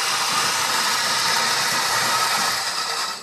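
A steady, loud hiss of steam and rushing water from an espresso machine's group head flush, sustained for a few seconds and tapering slightly at the end, with no voices.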